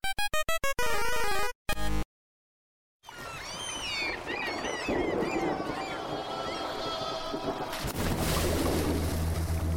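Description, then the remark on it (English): After a short burst of musical tones and a moment of silence, a steady wash of sea and waves rolls in, with scattered high cries above it and a low droning rumble toward the end. “And welcome to our deep sea domain.”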